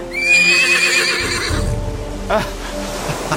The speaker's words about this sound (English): The chariot of Poseidon. Now, that's what I call travelling in style. Are those the horses pulling it? Hippocampi, yes. The horses of the sea.